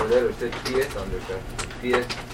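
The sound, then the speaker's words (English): An eagle gives a run of squeaky, whistling calls, several short high-pitched notes in an uneven sequence, moderately loud, with rustling and background noise underneath. “This eagle makes some kind of noise.”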